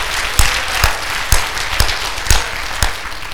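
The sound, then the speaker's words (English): A church audience applauding God, a dense wash of hand clapping with several sharper, louder claps standing out at roughly half-second intervals, steady and fairly loud throughout with no talking. “Can you give Him a hand clap?”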